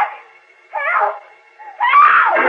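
A woman screams for help in three drawn-out wailing bursts, each rising and falling in pitch, sounding faint, far-off and thin, heard from within a tunnel, with no talking around them.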